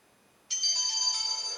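An electronic alarm tone, alarm sound 3 previewed in a program's alarm settings by pressing the F1 key, starts abruptly after a short silence and holds steady, bright and high-pitched with sustained ringing tones and a faint lower harmonic, with no voices.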